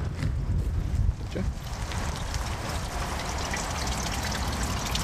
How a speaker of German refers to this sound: Hier plätschert übrigens.